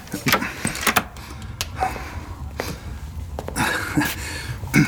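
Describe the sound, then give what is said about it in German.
A door is handled and shut, with a series of sharp clunks and rattles spread across a few seconds, amid light shuffling noise and no clear talk. “Schließen Sie die Tür, setzen Sie sich zu uns und schenken Sie sich ein Tässchen Tee ein.”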